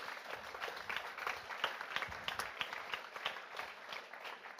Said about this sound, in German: Herzlichen Applaus.